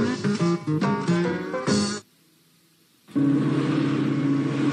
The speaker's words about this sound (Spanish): ¿Coche nuevo? Sí. ¿Has oído cómo suena? Muy bien. Pero para que el motor siempre suene igual, usa Agip.